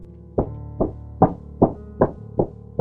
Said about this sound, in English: Someone knocked on the door then, sending my heart into a frenzy. It was a heavy, impatient knock, one that shook the whole doorframe.